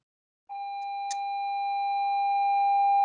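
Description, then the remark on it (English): A school's electronic passing period bell starts abruptly and holds one steady, mid-high buzzing tone, growing slightly louder as it rings on, with a brief click partway through and no voices. “That's our passing period bell.”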